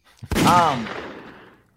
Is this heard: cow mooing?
no